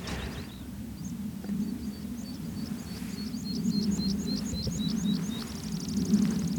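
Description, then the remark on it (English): Skylark song and a meadow pipit's song flight: a series of thin, high repeated notes quickening into a faster trill, fairly faint over a steady low wind rumble, with no talking. “Little bit of skylark song and amazing little song flight of the meadowpipit.”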